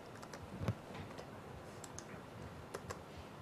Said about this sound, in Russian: Так, хорошо, значит, я сейчас введу на экранной клавиатуре, меня переключили, да?